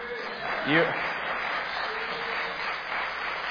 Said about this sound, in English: I'm watching who's clapping and who's not clapping. So I saw those of you who didn't clap.